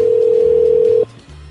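A loud, steady telephone dial tone, heard while placing a call back to someone, holds a single even pitch for about a second, then cuts off abruptly, leaving only a faint low hum behind. No one speaks.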